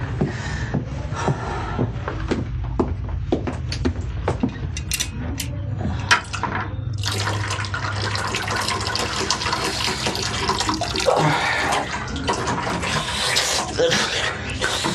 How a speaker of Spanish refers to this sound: Con violencia casi va hasta la cocina y se echa agua en la cara. Luego, como un pobre animal acorralado, bebe el agua que recoge el hueco de su mano.